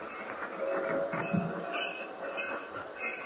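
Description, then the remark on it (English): A fast train rumbles steadily as it arrives at Sharon Heights after a one-hour ride, with thin, high metallic squeals from the wheels rising over the continuous low roar of the cars. “This is fast train.”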